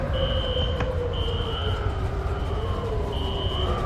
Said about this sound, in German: Alarm 1.